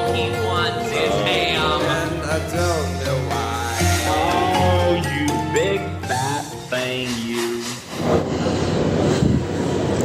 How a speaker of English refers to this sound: I'm sorry, I'm at a railway station again. It sounds like it's not on the train. Oh. I'm on the platform and there's nobody else here. The platform. There's a train going by behind me